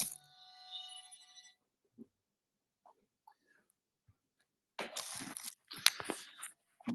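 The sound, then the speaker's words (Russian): A phone's electronic ringtone chimes briefly at the start and then stops, followed by a pause and then rustling and clattering handling noises. “Уже звонят, и день начинается, интенсивность.”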